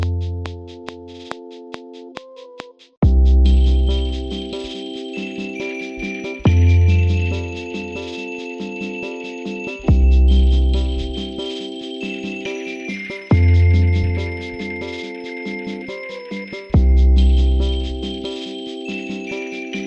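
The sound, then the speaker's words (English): A sampled bell-like instrument, a restored broken instrument from 1957, plays a bright, ringing lead melody over a backing track, starting alone for a few seconds before a heavy beat with deep bass hits enters beneath it, no voices. “I'm going to try to use this bell instrument to make a lead melody.”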